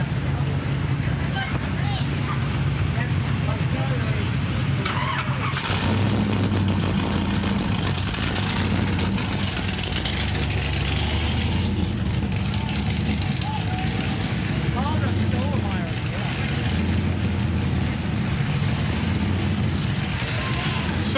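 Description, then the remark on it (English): A car engine rumbles steadily, idling with a deep low drone, then surges louder around a third of the way in as it revs, with wind-like rushing noise throughout. “And it just makes a lot of noise. But it's great. Yeah. It's such a sweet car.”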